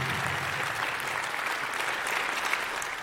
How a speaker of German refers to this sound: Ja, liebes Haus, Sie dürfen gerne klatschen.